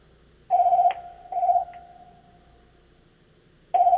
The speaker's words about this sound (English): I never thought about the phone ringing, sitting in the church office on a Sunday morning.